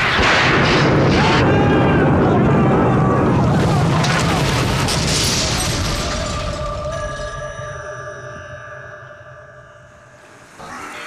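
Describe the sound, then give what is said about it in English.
A loud, sudden blast erupts with a crackling burst as lightning strikes a boat carrying a large copper ball during a thunderstorm and the boat explodes, then a long rumbling roar that slowly fades while eerie sustained tones ring out afterward. “The lightning struck, the boat exploded”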